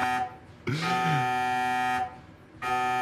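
A loud, harsh electronic buzzing alarm blares in long on-off bursts, a rich droning tone cutting out briefly before sounding again.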